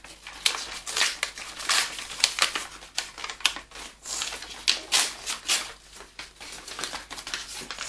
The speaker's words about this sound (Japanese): これ、今破る。今破ってね、お手紙あげるところのね、うん、いいね。